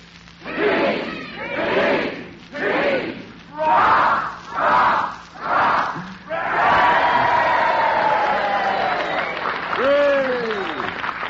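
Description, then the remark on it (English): A group of voices shouts a rhythmic chant in about six loud bursts, cheering for the Allied Armed Forces, then breaks into sustained, excited cheering and yelling that carries on to the end. “Well, fellas, we'd like to cheer the greatest all-star team in history, the Allied Armed Forces.”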